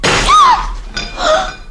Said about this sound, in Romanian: Și ce văd, ai spart și oalele neîndemânatico. Din ce o să mâncăm acum? Cu ce o să bem apă?